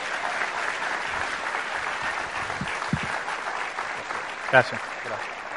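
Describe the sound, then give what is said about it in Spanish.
An audience at a church service applauds for God in a steady, dense wash of clapping that holds at an even loudness throughout, with a brief louder burst near the end and faint voices mixed in. “Denle un aplauso a Dios, hermanos.”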